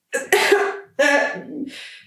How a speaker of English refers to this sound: A loud cough.